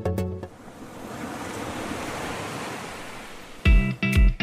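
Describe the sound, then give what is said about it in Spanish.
Ocean waves wash steadily onto the shore in a continuous broad rush, bracketed by short, loud tonal bursts at the very start and near the end. “¿Qué es el océano?”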